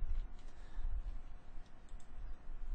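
Quiet, irregular clicking of typing on a computer keyboard, a steady patter of soft keystrokes close by over a low background hum, with no one talking.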